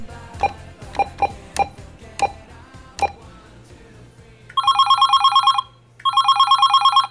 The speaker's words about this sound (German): Wieder klingelt's bei Pulitz in Remsede. Larissa stürzt zum Telefon.